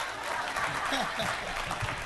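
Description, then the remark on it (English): An audience at a church service claps steadily for about two seconds, a dense, continuous patter of many hands, with scattered voices calling out beneath the applause. “Y'all could have clapped for Chicago.”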